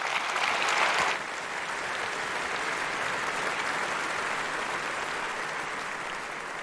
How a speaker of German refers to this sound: Großen Applaus